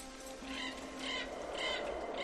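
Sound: raven cawing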